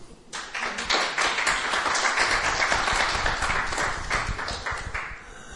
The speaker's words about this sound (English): Anyway, give him a cheer.